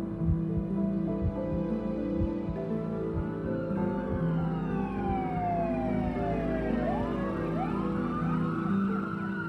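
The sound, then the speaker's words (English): Several emergency vehicle sirens wail and sweep up and down in pitch, growing louder as the vehicles arrive at the scene of a car crash, over a steady low engine rumble, with no one speaking. “I watch and wait as the emergency vehicles arrive, as firemen and paramedics check on Noah's parents and the other driver.”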